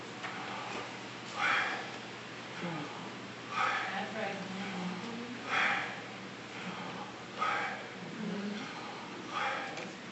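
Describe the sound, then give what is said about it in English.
Slow, deliberate breaths drawn in and pushed out, a breathy rush of air recurring about every two seconds in a steady rhythm over a faint low hum. “Did you ever listen to the way you breathe? You breathe.”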